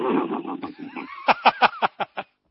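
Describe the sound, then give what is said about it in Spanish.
A person's voice imitates a horse's whinny: a rough, drawn-out cry followed by about seven quick, rhythmic bursts that fade toward the end. “el caballo se da vuelta y le hace”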